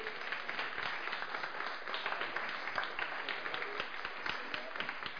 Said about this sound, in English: round of applause.